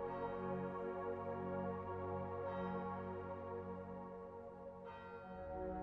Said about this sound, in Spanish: Desde aquí puedes escuchar las lejanas campanas.